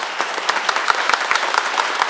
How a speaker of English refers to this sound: But that wasn't a big enough clap. So let's just do one more time where everybody claps as loud and as enthusiastically as you can. Ready?